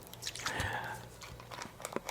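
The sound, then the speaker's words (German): Someone takes a sip from a bottle: a brief slurping draw followed by soft wet gulps and small clicking mouth noises, fairly quiet, with no talking. “dann noch einen Schluck aus der Flasche, wie wir eben gehört haben.”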